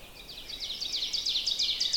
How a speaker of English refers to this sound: And I've been hearing these for a few days, but conditions have been windy, or they've been this, or they've been that. I haven't been able to actually get out and record it. So it's a fun one to hear. And oven birds are fairly common up here.